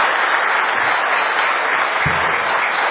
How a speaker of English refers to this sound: Maybe we could give them another round of applause. Wouldn't that do? That's good.